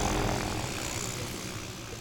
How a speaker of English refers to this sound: So behind you, a helicopter's coming in with a deer? Two deer. Yeah, two deer, yeah.